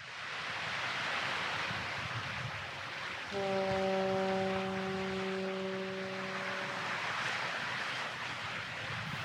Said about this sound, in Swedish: Mistluren tutar över Öresund och precis där börjar Eva Klangs föreställning Ett stilla liv.